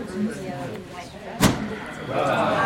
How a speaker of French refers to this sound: Regarde, ils ouvrent la porte.